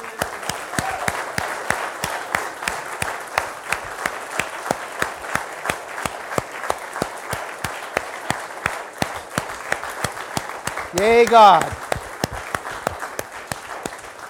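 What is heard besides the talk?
audience applauding loudly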